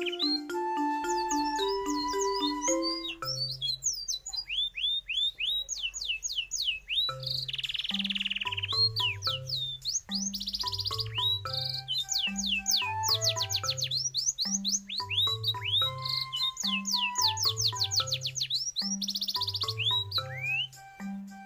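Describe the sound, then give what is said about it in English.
A voice imitates birds with a steady stream of bright, rising whistled chirps in quick bursts, while soft, low tones repeat underneath in an even rhythm. No one speaks. “Mimics gentle whistling and soft chirping.”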